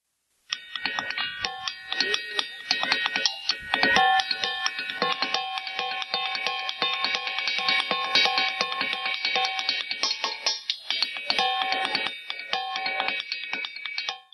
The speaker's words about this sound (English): That is somebody playing, well, not, you can't say it's playing the drums because you're not really playing the drums. What you're doing is you're taking hammers and you're hitting rocks. These are rocks. They're known as the ringing rocks.